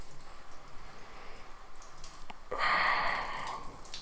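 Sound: running water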